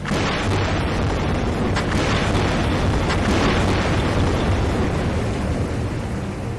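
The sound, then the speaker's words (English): Seismic survey air guns firing underwater from a boat, about 30 or 40 going off at once to locate spots on the ocean floor for drilling for fossil fuels: a loud, unbroken low rumbling roar, with a few sharper bursts rising out of it. No voices. “So you'll have boats with about 30 or 40 air guns that'll all go off at once.”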